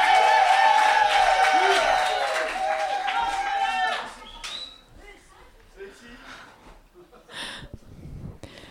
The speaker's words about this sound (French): On l'applaudit très très très très très très très très fort.